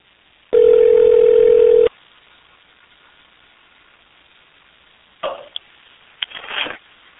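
A loud, steady telephone tone sounds for just over a second as a phone call is placed on September 27 at 6:20 p.m., then a quiet hissing phone line follows with a couple of brief clicks and rustles near the end. No one speaks.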